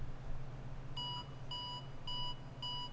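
The Batphone rings with four short, evenly spaced electronic trills, bright and tonal, over a steady low hum with no voices.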